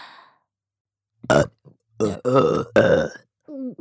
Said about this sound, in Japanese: ゲップが出るとまた感じる。